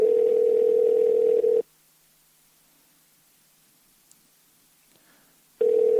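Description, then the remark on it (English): An outgoing call's ringback tone: a steady, low-pitched electronic burst, then about four seconds of silence, then the tone starts again. No one speaks. “So let's see if he answers the phone.”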